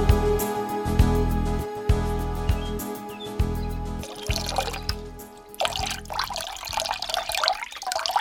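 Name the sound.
water running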